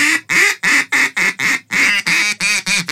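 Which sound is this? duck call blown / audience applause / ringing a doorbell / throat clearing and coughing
duck call blown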